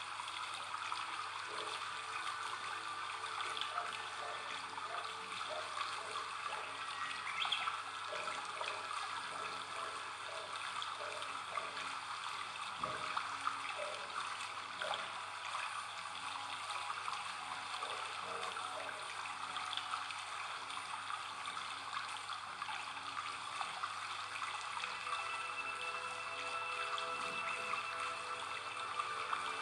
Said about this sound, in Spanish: Mientras sentimos el agua chapotear por nuestros pies, observamos que ha empezado a llover.